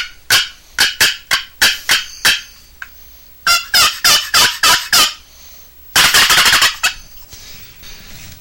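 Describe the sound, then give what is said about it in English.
A turkey call yelps in three loud runs of sharp, evenly spaced notes, the last run faster and more clipped, mimicking several wild turkeys, with no talking. “It's got enough variety in it to sound like a lot of different turkeys.”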